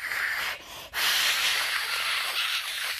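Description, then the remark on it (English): A voice imitates Mama Schwaz hissing like a snake: a long, breathy, high-pitched hiss that breaks off briefly near the start, then resumes and holds steadily for about two seconds. No talking. “And Mama Schwaz hisses.”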